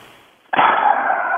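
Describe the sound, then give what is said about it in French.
A person imitates a horse over the phone, answering an automated identity check that asks for a horse sound, with a single loud, rough, breathy burst that starts abruptly after a short quiet moment and holds steady for about a second, sounding thin like a phone line. “Imitez le son d'un cheval.”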